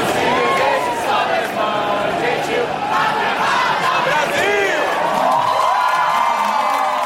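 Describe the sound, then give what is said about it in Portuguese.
A dense crowd of Brazilian fans in the stadium in Samara roars and cheers steadily at a Brazil national team match, many voices chanting and singing together in wavering tones over a constant wash of noise, loud throughout the whole stretch. “Em meio a um lance e outro, o povo gritava, sorria e sofria, como em novela mexicana, mas também se alegrava com a seleção brasileira, principalmente após o primeiro gol feito por Neymar.”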